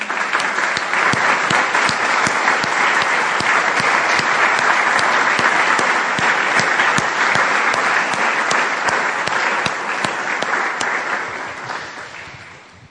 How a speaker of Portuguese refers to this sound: Vamos aplaudir esse senhor. Já.